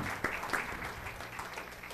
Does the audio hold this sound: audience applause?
yes